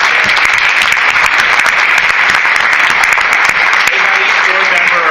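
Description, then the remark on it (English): Steady, loud applause from an audience for students of a running club fills the whole stretch, a dense wash of many hands clapping without pause or change in intensity. “Round of applause for our students, because this is one of our best clubs.”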